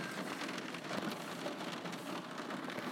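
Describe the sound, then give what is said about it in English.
Heavy rain pours down steadily in Catalonia, a dense, hissing wash of drops with no pauses, loud and even throughout with no voices. “the very rainy Catalonia, and it's persisting down with rain”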